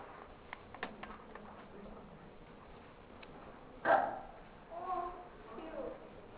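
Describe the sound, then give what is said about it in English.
A small dog, an 11-pound toy poodle named Peter, gives a sharp bark followed by a couple of shorter yips, thin and tinny as if played through a speaker from a video, over a low, muffled background. “Peter is a small dog with a very big problem.”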